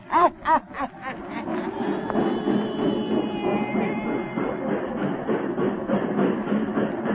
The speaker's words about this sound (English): Just got off that train.